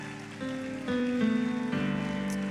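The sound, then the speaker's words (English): An audience at a Lifehouse church Sunday service claps together in a dense, steady wash of applause, giving the Lord a hand clap of praise, with sustained organ-like chords underneath that shift pitch a few times. No one speaks. “Can you give the Lord one more hand clap of praise?”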